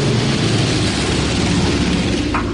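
A small airplane, Buffalo 523, takes off from runway 27 for four stops up the Mackenzie Valley, its engine roaring steadily and loudly at takeoff power, a dense, unbroken drone with a deep, throbbing low hum beneath a broad wash of noise. No voices.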